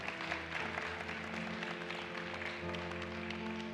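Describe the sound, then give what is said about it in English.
An audience applauds the band steadily throughout, a dense wash of many hands clapping at an even level, with sustained musical tones droning underneath. “Give them a round of applause in the middle of this.”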